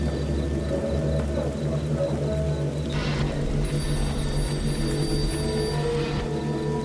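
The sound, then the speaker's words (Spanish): An old telephone rings faintly in the distance, its bell bursts recurring a few seconds apart over a thick, steady low drone. No one speaks. “Escuchas un teléfono sonando a lo lejos.”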